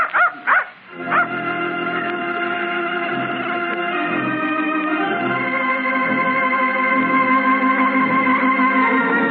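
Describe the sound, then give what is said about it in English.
A puppy gives a few quick, sharp yips, then breaks into a long, steady stretch of high whining and yelping that carries on without pause. No one speaks. “Can I play with your dog?”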